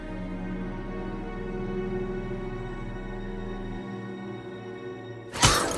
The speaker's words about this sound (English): She smashes the photo with her left fist.